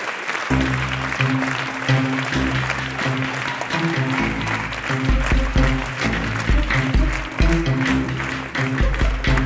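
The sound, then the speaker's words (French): A dense burst of audience applause as performers, second-year Master's students of the CNSMDP, take a synchronized bow under full lighting; many hands clap steadily and loudly throughout, with low sustained music notes droning underneath. “Éclairage plein phare. Salut synchronisé et majestueux. Applaudissements.”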